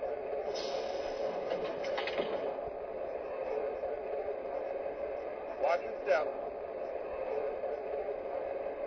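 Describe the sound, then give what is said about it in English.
Passenger train number 3, the Pocahontas, rolls into the station at Norfolk on track 1 with a steady low rumble, broken by a couple of brief metallic squeals or clanks. Indistinct voices may murmur underneath. “Now arriving to Norfolk on track 1, train number 3, the Pocahontas.”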